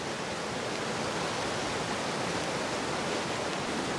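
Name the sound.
river water flowing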